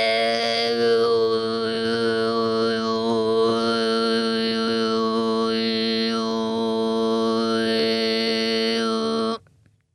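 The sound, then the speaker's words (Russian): A lone voice imitates sheep bleating as a loud, buzzing throat-sung drone with shifting whistly overtones, held steadily for about nine seconds before abruptly stopping. “Подражание вот эти... Вы слышали бление овцы?”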